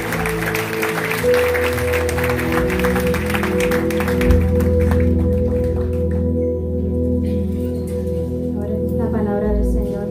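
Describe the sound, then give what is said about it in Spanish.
An audience gives loud applause to God, dense and steady over sustained keyboard chords. The clapping fades after a few seconds, leaving the held organ-like tones alone. “Así que dar un fuerte aplauso a ese que recibe toda la gloria y toda la honra.”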